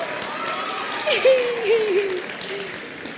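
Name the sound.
audience clapping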